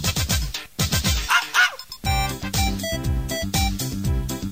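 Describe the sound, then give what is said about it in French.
A small poodle barks and yips in quick, high-pitched bursts, fairly loud, with a brief pause before a rapid run of sharp yaps. No one speaks. “Petit caniche, peluche pour vieux.”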